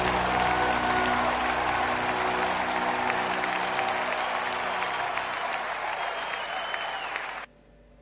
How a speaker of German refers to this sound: So viel Applaus muss sein.